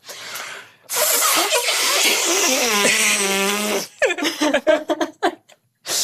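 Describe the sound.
A voice blows a long, loud, buzzy fart imitation lasting about three seconds, its pitch wobbling and sliding, after a short breathy hiss. Choppy bursts that sound like laughter follow.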